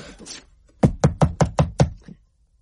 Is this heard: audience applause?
no